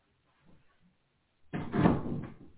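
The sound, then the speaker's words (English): A cat pushes a door open in a home office: a few faint soft bumps, then a broad, sustained scraping swoosh lasting about a second before trailing off. No one speaks. “Sorry, my cat came in here and she opened the door.”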